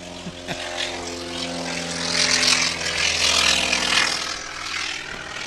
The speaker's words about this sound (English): And right on cue, we have a T-28 taking off.